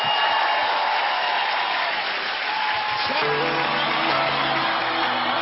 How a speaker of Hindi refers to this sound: please जोरदार तालियों से स्वागत कीजिए एक कोरियोग्राफर